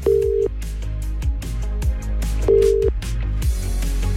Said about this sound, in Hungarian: Ha megadod nekem a telefonszámot, a címzett telefonszámát, akkor én rácsörgök, és átadom neki azt az üzenetet, amit te szeretnél elmondani a rádión keresztül.